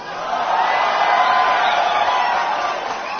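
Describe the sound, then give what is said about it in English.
A crowd cheering and whooping at the SpaceX Falcon Heavy rocket launch, a steady, sustained roar of many voices, loud and even throughout the few seconds with no single voice standing out. “rather than have me describe this historical launch, here's a clipping of the event with that famous and evocative countdown and all the cheering, so you get the atmosphere and hullabaloo in case you missed it last Tuesday night.”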